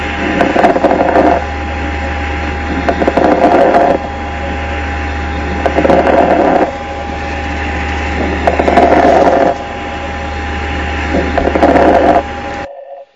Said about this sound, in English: And crackles are something that we can hear from atelectic alveoli popping open, popping closed, popping open, popping closed, and that all happening in a staggered manner all around the lungs. And it's due to fluid accumulation.